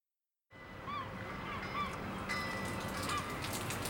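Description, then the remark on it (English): Rain begins abruptly and settles into a steady hiss with scattered patters, while a few short honking bird calls sound faintly in the background. “Oh no! It's raining!”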